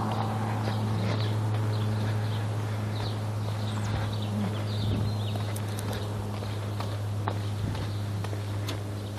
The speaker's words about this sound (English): Birds chirping, sprinklers sprinkling.